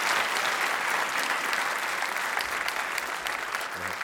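An audience at a live show claps steadily, a dense, continuous patter of applause that holds at an even, fairly loud level for several seconds without any voices standing out.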